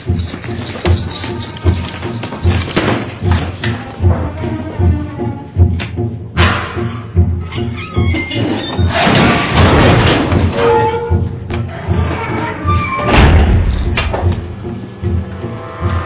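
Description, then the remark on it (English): Heavy, irregular thumps and knocks against a stuck door wheel, loud, with metallic rattling and scraping between blows over a constant rumbling background. “There's got to be a front door in this place.”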